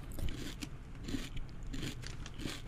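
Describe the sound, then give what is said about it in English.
Crunchy chewing of a kanafeh dessert with pistachio and tahini, with repeated bites about every half second, crisp crackles over a low munching rumble, and no talking. “Listen to that crunch.”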